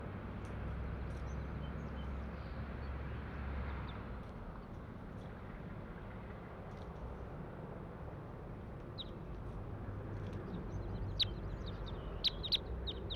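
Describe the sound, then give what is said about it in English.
A handful of short, high-pitched bird call notes from netted bird number 140, a female, recorded just after a flock of about 20 crossbills flew over, break through steady low rumbling background noise, sparse at first and then a few sharper chirps near the end. “A flock of about 20 crossbills just flew over, and this is bird 140 I'm trying to get recordings of.”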